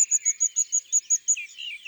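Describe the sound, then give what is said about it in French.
Crested tit calls: a quick, even series of about eight thin, very high-pitched notes, followed by a softer, buzzy trill at the end. No voices. “Ce sont les cris de la maison Jehuppé.”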